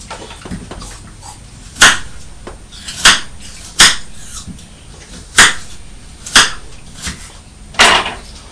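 Crunching of a crisp apple: seven or so sharp, crackly bites at an uneven pace, each a bright, fairly loud burst over a quiet background, with no voices.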